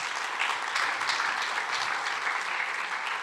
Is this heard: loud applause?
yes